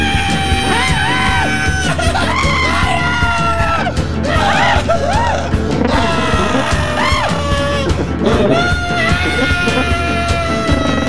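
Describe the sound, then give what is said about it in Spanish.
A boy screams in pain, loud, with shrill wailing cries rising and falling almost without pause over a dense, constant background for about eleven seconds. “El niño malvado grita mientras el piel doc le quita la cuchilla, llega al hueso, cruje y truena, ¡ay, qué es eso!”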